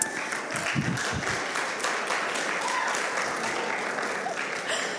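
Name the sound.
audience applause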